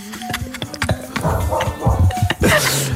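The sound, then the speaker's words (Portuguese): A dog barks several times in short, irregular bursts, with a faint whine and scattered background noises between the barks. “Espera aí, ou é o cuco ou é um cão.”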